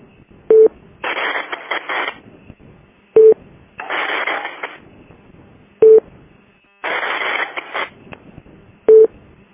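Short electronic beeps repeat about every three seconds, each followed by a harsh burst of radio static or data noise, alternating in a steady cycle with no voices.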